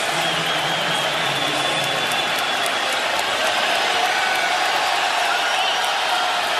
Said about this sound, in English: They don't like to hear the fans cheering. I'm surprised by that, and the players are telling him not to be doing that. No question. These Raptor fans have been wonderful, but to cheer for a player who gets injured. You could hear it on that audio,